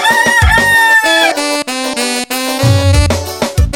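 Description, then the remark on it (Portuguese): A loud rooster-like crow with long, wavering calls rings out prominently over a busy, dense Brazilian forró pisadinha backing with deep bass notes. “Esse galo não tem mais jeito, viu?”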